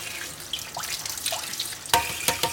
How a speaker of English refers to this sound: So I'm keeping them in my hands. I'm taking out the rough outer layer, and then I'm letting the water gush through all the other layers to clean them out.